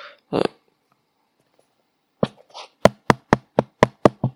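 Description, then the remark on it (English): Someone knocks on a door in a quick, even run of about seven sharp, loud raps, preceded by a couple of short muffled noises. “Someone's at the door.”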